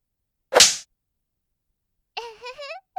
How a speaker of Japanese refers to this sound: どう？ゴムのムチだよ。これだったらたくさんお兄ちゃんにお仕置きできるね。いくよ。まずは一発。